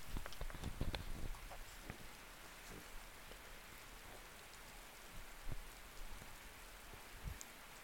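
Steady rain from a thundering storm, heard from inside a mobile home: a constant soft hiss with many irregular, sharp drop taps, busiest in the first second or so, with no voices.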